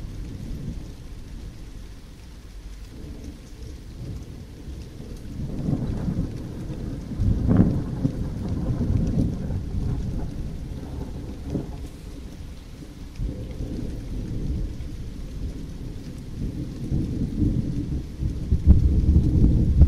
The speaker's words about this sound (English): Stick my head outside. I can hear it properly. Okay, massive piece of lightning there. Much bigger than the one. Here we go. And another big piece of lightning.